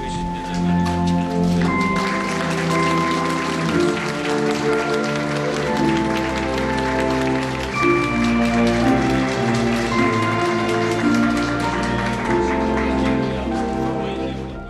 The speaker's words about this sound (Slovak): Potlesk, ktorý ste práve počuli, drahí bratia a sestry, zaznel dnes predpoludním po 11. hodine vo vstupnej hale budovy Vatikánskeho rozhlasu na Piazza Pia, po tom, čo do nej vstúpil dlho očakávaný vzácny host, pápež Benedikt XVI.